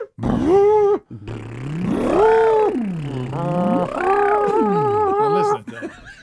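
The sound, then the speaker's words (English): A person hums a loud, wavering tone that swoops low and high over several seconds, vocally imitating a sci-fi tractor beam, with no speech. “Oh, tractor beam”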